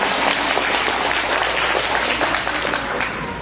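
An audience at a stage performance applauds a young performer's mother, dense overlapping claps at a fairly loud level, then tapering off slightly near the end with no voices over it.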